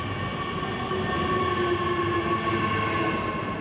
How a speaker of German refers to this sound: steht nun auf Gleis 3. Dieses Mal kommt sein Zug.